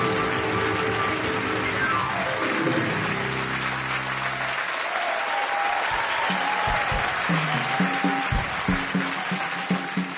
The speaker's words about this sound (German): Applaus, Applaus, Applaus. Die ersten Gäste treffen ein.